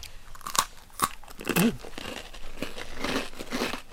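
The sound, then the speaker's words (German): Crisp bites into a crunchy, darker spiced Christmas cookie, gingerbread-like, made with lard, almonds and cloves; a few sharp cracks, then steady, textured chewing with crumbly crunching that continues to the end, with no talking. “Wir beißen mal rein.”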